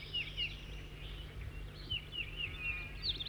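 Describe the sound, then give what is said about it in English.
A new bird, number 206 or 207, sings a series of high, thin whistled phrases and trills, repeating in short bursts over a steady low hum, with no talking. “That's 4-3 in song now.”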